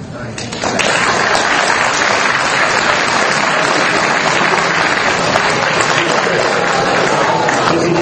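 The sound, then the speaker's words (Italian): An audience breaks into applause, dense overlapping clapping that swells within the first second and then holds at a loud, steady level until the end. “Chissà se uscirò con gli stessi applausi o se uscirò.”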